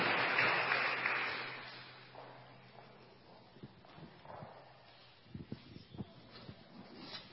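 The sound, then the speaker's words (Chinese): An audience at a gathering with priests and nuns breaks into applause to welcome a woman coming to give testimony, a dense, loud burst of clapping that dies away within a couple of seconds, leaving scattered, uneven claps and light knocks. “我们就鼓掌欢迎属灵姐妹来见证主在他生命中那神奇美好的作为。”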